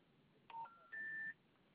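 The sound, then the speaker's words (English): Two touch-tone keypad beeps sound in quick succession as a phone number is dialed, the second tone held a little longer, clear over a faint background hiss. “So dial this phone number.”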